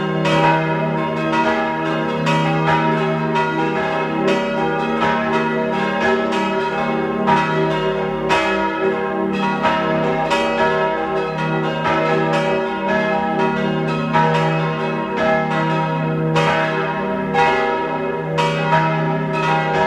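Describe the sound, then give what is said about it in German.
Several bells of the baroque parish church of Saints Aegidius and Silvester in Reith bei Kitzbühel, Tyrol, Austria, ring together at noon in a steady, overlapping peal, their resonant tones rich and sustained, with frequent strikes layering over one another continuously. No voices are heard. “Sie hören die Glocken der Pfarrkirche zu den Heiligen Ägidius und Silvester in Reith bei Kitzbühel in Tirol.”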